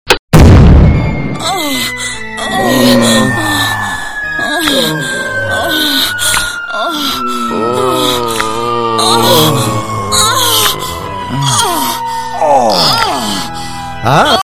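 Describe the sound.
A person shot from a cannon at Tiger Stadium: a sudden loud boom at the start, then a long descending whistle as a voice groans and wails the whole way through.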